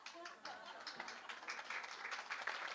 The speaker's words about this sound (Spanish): Ese aplauso es para Wikipedia, ¿no? Siempre ahí.